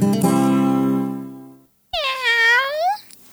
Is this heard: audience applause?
no